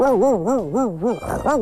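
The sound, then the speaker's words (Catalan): A person loudly imitates a Mallorcan shepherd dog barking, a continuous voiced yelping with rapid, regular rises and falls in pitch and a brief rough break near the end. “I així com un ca de bestiar mallorquí lladra així”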